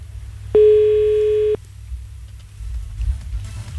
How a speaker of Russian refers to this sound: Я так понимаю, телефонный звоночек у нас есть сегодня.